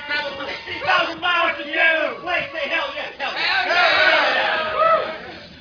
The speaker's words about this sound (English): Everyone who traveled more than 500 miles to get to this drill, scream at the top of your lungs, hell yeah! Yeah! This is a crowd!